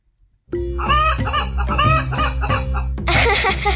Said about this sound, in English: A chicken. I don't know what to say, except thank you. She can live in our yard, and maybe she'll lay us some eggs.